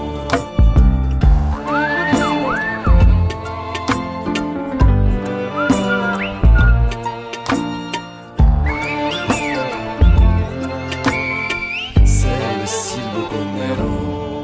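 A Silbo-style whistled melody with sliding, swooping notes rises and falls in short phrases over a busy musical backing with steady percussion; no one speaks.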